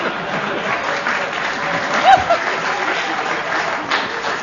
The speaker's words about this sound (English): This audience is so desperate to applaud something that they actually applauded that.